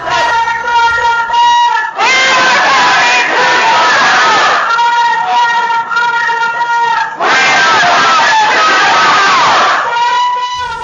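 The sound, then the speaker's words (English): A crowd of protesters loudly chants the rhythmic slogan "For the cat and for the mouse, we are coming to your house" in unison, the chant rising in repeated bursts with brief dips between phrases, voices merging into a dense, steady roar. “Heard that? For the cat and for the mouse, we are coming to your house, which is exactly what protesters had done the previous day with protests at the homes of Huntington Life Sciences customer executives.”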